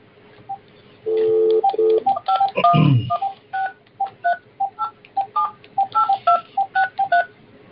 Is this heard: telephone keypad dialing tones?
yes